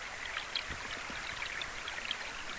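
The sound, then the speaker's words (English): A small creek flows steadily in a quiet spot, its water babbling and trickling in a continuous bright wash, with a few soft gurgles and splashes rising now and then. No voices are present. “in this quiet spot, you just sit down, you put your headphones on, and there's nothing else but you and this little creek and this amazing place.”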